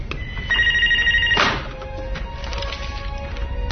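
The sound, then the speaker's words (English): A telephone bell rings in a steady trilling burst for about a second, followed by a dull thud and a fainter electronic tone. “Somebody want to get that phone?”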